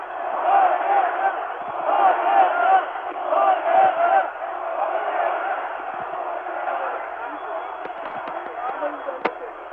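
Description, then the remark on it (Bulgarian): A large crowd gathered below at the National Assembly chants "victory" in unison, a loud rhythmic roar of many voices that swells in the first half, then settles into a steady din. A brief sharp crack sounds near the end. “Хората викат победа и седе се, чуйте ги сами.”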